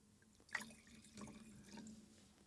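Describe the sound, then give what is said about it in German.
Wine, a 2021 Ried Bernreiser from the Markovic winery in Carnuntum, pours into a glass, starting with a sharp splash and continuing as a soft, gurgling trickle for a couple of seconds, with no talking. “Und sollen wir vielleicht den dritten Wein anbauen? Genau, ja, den hätte ich jetzt so als Begleitung dazu als Begleitung einschenken.”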